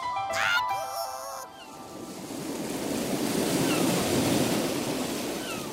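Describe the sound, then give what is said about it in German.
Ocean waves breaking on a shore make a broad, rushing roar that swells and holds steady. A brief warbling tonal sound is heard at the very start. “Na, mögt ihr das Meer auch so wie ich?”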